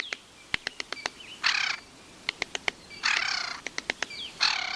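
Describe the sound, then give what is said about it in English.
A Williamson's sapsucker gives three harsh, raspy calls, with bursts of sharp irregular tapping between them, drumming against wood in a quiet western forest. “Williamson sapsuckers share western forests with a dozen species of woodpeckers.”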